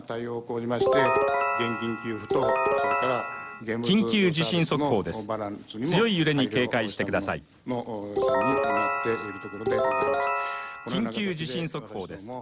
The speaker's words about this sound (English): The man talking over those chimes is warning that a strong earthquake is about to hit the northern part of the country.